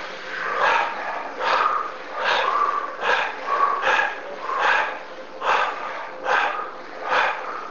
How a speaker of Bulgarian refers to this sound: Пак дишване през носа и пускане през устата, но сега се ускорява. А сега пак мини на гръдна бастрика.